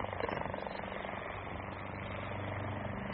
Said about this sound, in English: Listen. What's that? No, not... No, no, listen. It's a plane. Well, it can't be. Wait. Wait. There it is. Look, there. A helicopter.